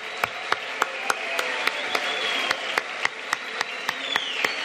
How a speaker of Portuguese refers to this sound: Eu peço a todos uma salva de palmas para o presidente Lula, por tudo que ele significa para nós.